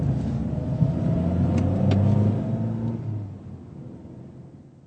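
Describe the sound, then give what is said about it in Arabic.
A taxi's engine rumbles on a street, its low drone steady for a few seconds before easing off and fading as the car pulls away toward the Hotel Europa, with faint street ambience behind it. “رجل يقف في الشارع ويوقف سيارة أجرة ويقول لسائقها أين وجهته؟”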